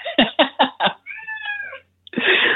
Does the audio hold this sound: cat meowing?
yes